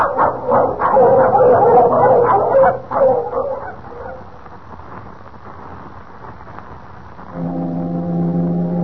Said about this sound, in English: That foghorn. Last time I heard it, Kent, was over 3 years ago.